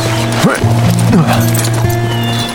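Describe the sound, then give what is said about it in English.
A few scattered hoof clops as a ridden horse is brought around the rear of a wagon, mixed with a steady tonal hum and brief rising whinny-like sounds, at moderate loudness throughout. “brought his horse around the rear of the wagon where Annie stood”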